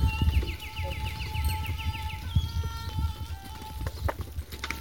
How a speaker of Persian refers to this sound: حالا تصور کن صبح شده، هوا هنوز خنکه، کوها رو به روز قرار دارن و روستا کم کم از خواب بیدار میشه. صدای رفت و آمد مردم، صدای پرنده ها و شاید صدای آب.